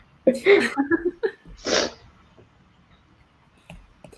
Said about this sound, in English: My allergies have really been like acting up today. So if you guys hear me sniffing, I'm sorry.